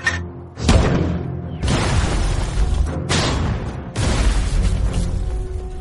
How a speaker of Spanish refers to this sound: El enemigo acaba de anunciar su presencia con unos disparos de mortero y artillería en el bosque.